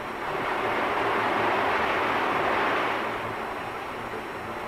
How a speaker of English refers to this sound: Here's one of the two basic types, an Owens vacuum machine. A spider-like monster with an insatiable appetite for molten glass. Listen to it.